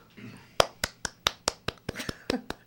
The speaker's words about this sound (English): Sound of two hands clapping.